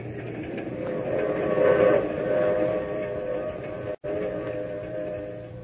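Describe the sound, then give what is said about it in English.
A train rolls steadily along the rails with a continuous rumbling clatter, and a whistle rises faintly over the noise for a couple of seconds. A brief cut in the sound follows. “Not till I'd gotten on the train with her and we were riding along to tell me why.”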